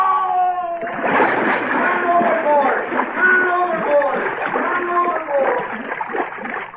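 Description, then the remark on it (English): A heavy splash hits the water about a second in as a man falls overboard over a back rail, followed by continuous churning and sloshing as though he is thrashing in it, with voices crying out over the noise. “Help! I fell in!”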